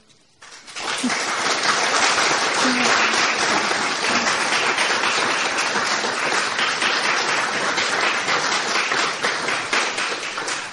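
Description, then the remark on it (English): A crowd breaks into sustained applause after a poem reading, following a short quiet start, dense overlapping clapping holding steady and loud for about ten seconds, with no voices over it. “I apparently have time for one more, so that was very nice, but it's slightly premature applause.”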